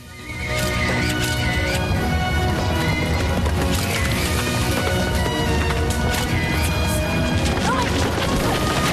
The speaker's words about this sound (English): She jumps to get out of the way of a galloping horse and falls.